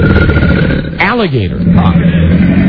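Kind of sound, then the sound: animal, alligator roar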